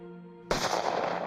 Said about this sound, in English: A gunshot to the head. A gun purchased by Carol Bundy.